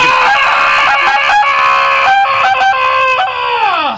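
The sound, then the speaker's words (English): A man screams on request, a loud, piercing scream held for about four seconds, steady and shrill with slight wavering, then sliding down in pitch as it trails off. No talking. “I kind of felt like that was George of the Jungle”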